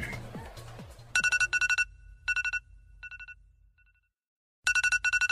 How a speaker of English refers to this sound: turn your fucking alarm off.